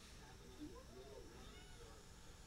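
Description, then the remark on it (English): One of a household's cats gives a drawn-out, complaining meow that rises and falls, fairly faint, over a steady background hiss with no talking, on a cold night of around 10 degrees. “One of our cats is complaining.”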